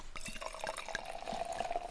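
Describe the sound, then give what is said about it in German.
Sparkling wine pours steadily into a sparkling wine glass, a bright fizzing and trickling stream with small splashes and a rising tone as it fills, fairly quiet, with no voices. “Da reiche ich doch glatt mal mein Sektglas und nehme vorher noch ein Stück, gell?”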